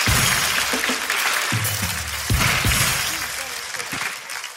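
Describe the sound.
A crowd claps steadily and loudly for several seconds, a dense crackling wash of hands, with a few voices calling out underneath before the clapping starts to fade.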